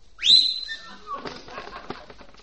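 person attempting to whistle

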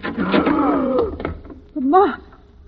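door being opened

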